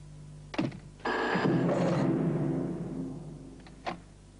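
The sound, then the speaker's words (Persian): A telephone rings once in a loud, jangling burst lasting about two seconds, framed by a couple of short thumps just before and after. “وای خدا جون، این تلفن من بود.”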